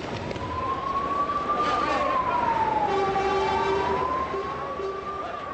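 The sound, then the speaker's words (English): A fire truck siren wails steadily in Iraq, responding to an explosion and fire at a three-story Ottoman building on Mutanabi Street around 7 o'clock in the evening. Its tone slowly rises and falls over a noisy street background, fairly loud and sustained throughout. “An explosion. Fire trucks.”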